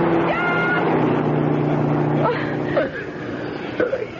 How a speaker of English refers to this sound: Oh, wait. I hear a car coming. He'll help us. I'll wave him down.